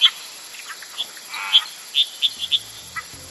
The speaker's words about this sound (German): Umgeben von atemreichem Primärregenwald liegt der Canterana-Sumpf, in dem unterschiedlichste Arten von Insekten, Amphibien und Reptilien leben. Vor allem in der Dämmerung hört man ein vielstimmiges Konzert von Insekten und Fröschen.